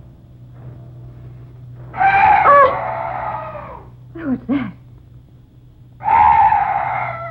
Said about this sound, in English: Oh, some night birds. Yes, that's all. Such a weird sound. I've never heard anything like it before.